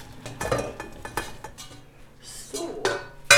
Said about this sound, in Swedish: Sen har jag allting på brickan och så går jag till spisen, till kastrullen. Och då är det ju bara att pytsa iväg här.